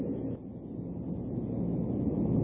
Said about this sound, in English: I'm hoping that you won't go to sleep tonight as you hear the rain on the roof and on the side of the building.